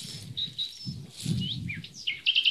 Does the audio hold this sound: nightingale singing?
yes